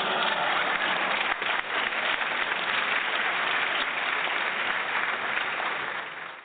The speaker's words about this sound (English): Number one, Tonya Pinkins. So, the Filthy Woman will be on. Let's give her some applause because she's great.